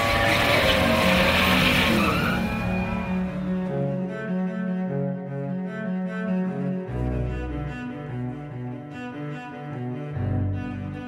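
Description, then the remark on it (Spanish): Tires screech in a loud skid at the start, then race car engines start and roar, revving hard with the accelerator floored, their pitch rising and dropping in bursts, with no talking. “Se encienden los motores.”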